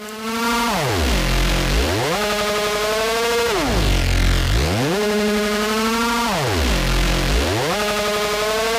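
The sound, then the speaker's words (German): Loud, heavily distorted music: a buzzing, saturated synth tone swoops down to a deep low pitch and back up, repeating roughly every three seconds, with no voices. “Und dann kommen halt gleich die Beats und alles ist eigentlich verzerrt da dran.”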